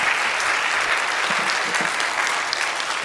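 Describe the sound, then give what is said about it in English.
Steady, dense applause from a church audience on Palm Sunday morning after a presentation, many hands clapping at once in a loud continuous wash with no pauses for the full three seconds, and no voices standing out. “Let's give her a hand.”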